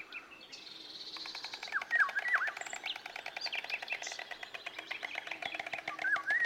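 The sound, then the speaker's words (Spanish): Summer nesting migratory birds in Cabañeros, arriving from sub-Saharan Africa after wintering there, call and sing together outdoors, a busy mix of bright chirps, trills and whistled phrases with a steady rapid ticking underneath, continuous throughout, with no voices. “En él puedes ver un tercer grupo de aves migradoras de Cabañeros. Se trata de las aves estivales nidificantes.”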